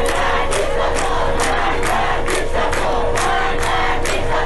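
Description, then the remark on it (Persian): A large crowd of students at the University of Isfahan chants slogans in unison, loud and continuous, with rhythmic bursts of shouting roughly every half second over a dense wash of voices. “دانشجویان در دانشگاه اصفهان شعار دادند.”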